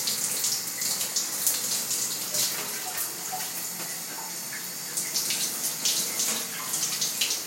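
Shower water runs steadily, a bright continuous hiss broken by small uneven splashes and spatters, with no voices throughout.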